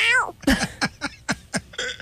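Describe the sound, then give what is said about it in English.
A person imitates a cat's meow: one drawn-out, falling meow followed by a quick series of short, choppy vocal bursts in a steady rhythm. “Actually, I think Murphy's used to my cat noise by now.”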